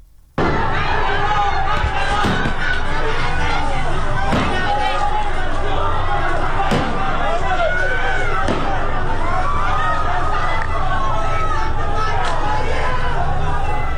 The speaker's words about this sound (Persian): و اما در مرودشت تظاهرات خیابانی برگزار شد صبح امروز. ویدیوهایی که منتشر شده صدای تیراندازی شنیده میشه که معلوم نیست گاز اشکاور برای پراکنده کردن معترضین هست یا شلیک مستقیم به سوی معترضین.